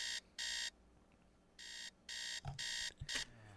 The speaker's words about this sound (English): Same stupid buzzers in Jerusalem, huh?